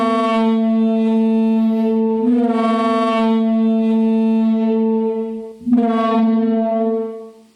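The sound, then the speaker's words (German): A simulated Parasaurolophus dinosaur crest call, somewhere between a trombone and a foghorn: a loud, deep, sustained horn-like drone rich in harmonics, swelling in two long blasts with a brief break before the second, no voices present. “Also das ist die Simulation dieser Töne.”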